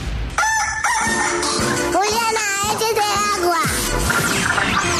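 A rooster crows loudly and close by, several rising and falling calls in quick succession, with some clucking and busy background noise mixed in.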